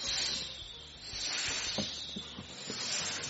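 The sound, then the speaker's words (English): A person makes a long, steady hissing sound with their mouth, imitating a snake, fairly loud, with a few faint breathy flutters and no words spoken. “Well, I'd pull out my snake balloon because people are afraid of snakes.”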